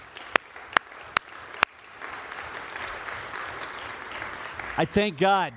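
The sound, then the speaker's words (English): A few sharp individual claps at first, then an audience breaks into steady, dense applause for the speakers that fills the room, with a voice starting to speak over it near the end. “And I just real quickly want to give them a round of applause if you would join me.”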